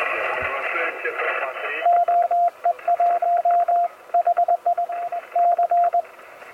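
A steady single-pitch tone keys on and off in short dots and dashes, a CW station sending Morse code to confirm an emergency radio call, over a noisy, band-limited radio hiss, fairly loud, with brief gaps between groups.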